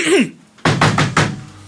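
A police officer knocks four quick, firm times on a door in a steady rhythm, fairly loud, following a brief vocal sound at the start.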